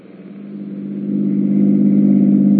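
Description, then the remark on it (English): A new car's engine hums steadily, its low droning note swelling louder over a couple of seconds as it revs, with no voices present. “Well, how do you like the new car,”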